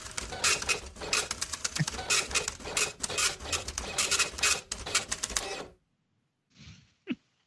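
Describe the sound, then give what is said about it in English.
A printer whirs and clatters for several seconds, with dense rhythmic mechanical chattering and rattling, then stops abruptly, followed by a couple of brief faint sounds. “Fix the printer.”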